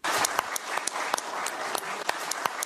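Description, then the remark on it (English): A crowd applauds steadily at the Kremlin as Ukrainian President Viktor Yanukovych and Russian President Vladimir Putin seal a natural gas deal, many hands clapping in a dense, continuous patter with a few sharper claps standing out, fairly loud, with no voices. “Shouting in Kyiv, but applause at the Kremlin.”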